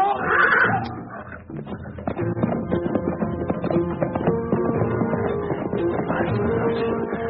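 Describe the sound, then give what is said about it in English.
A lion's growling roars clash with a horse's shrill, frantic whinnies as the lion attacks and gets onto the horse, a loud struggle, the snarls and squeals rolling on continuously with no pause. “Get the horse away. They're after him. Kick. No. No, it's too late. The lion's too close. He's on the horse.”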